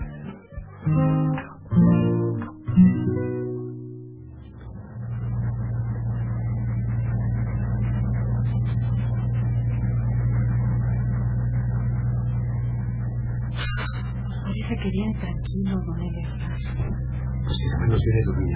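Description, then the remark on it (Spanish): A pickup truck engine revs in a few sharp bursts as the truck is brought over, then settles into a steady driving rumble that continues loudly and evenly, with no voices. “Yo voy acercando la camioneta, no tardo.”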